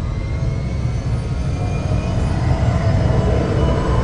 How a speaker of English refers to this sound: The enormous engines of 30 ships begin to push their way from their holding pens and begin their ascent towards the stars.